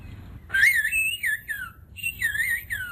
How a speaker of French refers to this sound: Alors sur une autre île, alors non pas aux Canaries, mais en Grèce, cette fois-ci, on communique et on converse en sifflant.